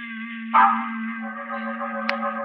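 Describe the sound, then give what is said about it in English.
A doorbell rings with a bright struck chime that hangs in a long, steady, resonant tone, with a sharp little click near the end. No one speaks. “Suddenly I realized that the doorbell was ringing again.”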